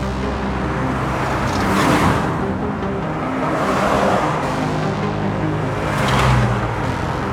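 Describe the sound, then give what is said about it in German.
Steady road traffic on Steinbachstraße, a busy street in Homburg-Erbach linking the Erbach centre with the expressway toward Jägersburg, with several cars swishing past one after another, each pass swelling and fading over a constant background rumble. “Die Steinbachstraße war schon immer eine vielbefahrene Straße.”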